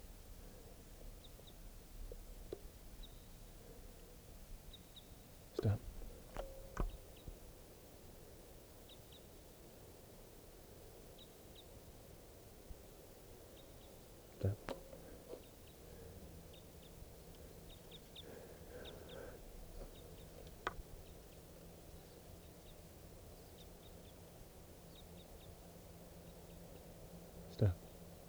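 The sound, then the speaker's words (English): Faint, distant song of a type 5 bird across a clearing: scattered short high notes and brief warbled phrases over steady background hiss, with a few sharp clicks and knocks. “Third recording, this is a type 5 bird way across the clearing.”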